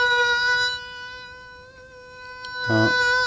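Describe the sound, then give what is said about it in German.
A thin, high-pitched mosquito whine drones steadily and close by, wavering slightly in pitch and briefly swelling louder as it passes near the ear, with no one speaking. “Mücken sind unglaublich nervige Flieger. Wenn die dir in der Nacht”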